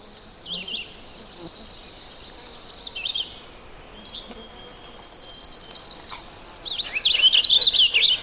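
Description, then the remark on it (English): A purple finch sings on a bog mat, a phrased, warbling song in quick bursts of high notes, faint at first and growing louder and more rapid toward the end, with no talking. “You hear that phrased kind of warbly song?”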